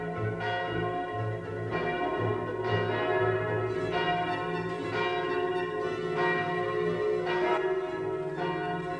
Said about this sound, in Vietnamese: Các chuông trong thành La Mã đổ hồi ầm ĩ và tất cả mọi người đều lớn tiếng reo mừng hoan hô.